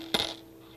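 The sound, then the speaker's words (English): A short metallic jingle of a set of three keys for opening locks: one bright clink followed by a brief ringing shimmer that fades within a fraction of a second, heard alone. “There are the locks. And here are the keys.”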